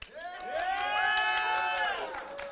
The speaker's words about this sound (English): Yay. Relax. Just relax. I know that you're cheering because God did a miracle.